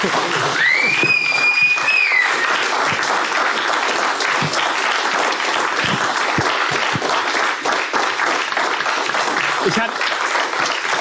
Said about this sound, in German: Und heute endlich mal, also wirklich, wenn ihr mir einen Gefallen tut, nur damit wir es einmal noch mal spüren können, ja, mit Publikum, mit Applaus, mit Fans, denn für euch machen wir das, für euch.